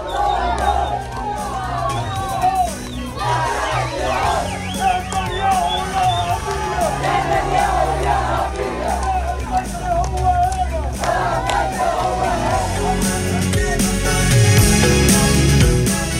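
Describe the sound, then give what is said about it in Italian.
A large crowd of Palestinians in Gaza shouts and cheers continuously in celebration of the Israel–Hamas ceasefire agreement, announced during the night, with whoops, scattered clapping and overlapping excited voices, loud and dense throughout, swelling slightly toward the end. “L'accordo raggiunto tra Israele e Hamas per un cessate il fuoco a Gaza, quelli che avete appena sentito sono ovviamente le urla di gioia e festeggiamenti della popolazione.”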